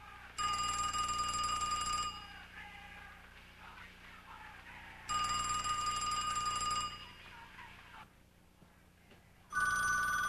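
A telephone rings in loud, bright bursts of about two seconds each, separated by pauses; three rings come through clearly, the last one cut short, with no voices.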